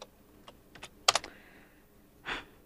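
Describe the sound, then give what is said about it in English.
Scattered computer keyboard clicks tap out an irregular rhythm, with a brief quick burst of keystrokes in the middle and a softer clack near the end, fairly quiet, as someone logs into Apple Music. No one speaks. “Excuse my typing.”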